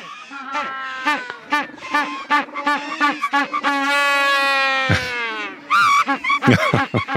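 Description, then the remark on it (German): A Magellanic penguin brays loudly, starting with a run of short rhythmic hiccuping notes, then a long drawn-out harmonic wail, ending in a few more choppy honks, with no voices. “Wo zu letzterem habe ich einen schönen Sound mitgebracht. Ihr hört mal den Magellanpinguin.”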